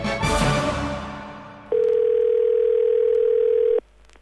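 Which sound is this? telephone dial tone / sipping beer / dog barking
telephone dial tone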